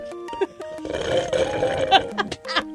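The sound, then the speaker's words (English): A person blows wet, sputtering raspberry noises with the mouth, imitating farts in a few rough bursts, fairly loud with no talking. “It's been forever since I made fart sounds on here.”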